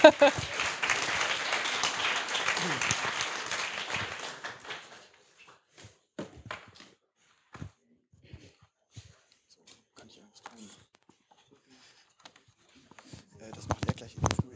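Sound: audience applause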